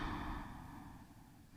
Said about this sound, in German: Und da können wir tief atmen.